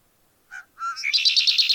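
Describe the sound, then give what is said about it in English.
A male red-winged blackbird sings: a short clipped note and a rising gurgle, then a loud, buzzy, rapidly pulsing trill that carries to the end, with no voices. “A male red-winged blackbird, they're among the earliest birds to set up territories.”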